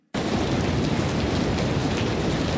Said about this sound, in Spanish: Es asqueroso y tempestuoso afuera.